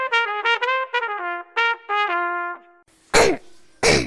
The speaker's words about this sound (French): Dis donc, tu es enrhumé, …. Ah ça, tu peux le dire. Si tu veux, je connais un remède contre la toux.